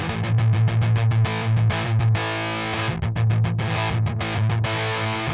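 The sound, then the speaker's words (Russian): A thick, saturated electric guitar tone through a fuzz pedal plays a chugging riff with short rhythmic gaps, loud, with no voices. “Это больше фуз, предназначенный для других целей.”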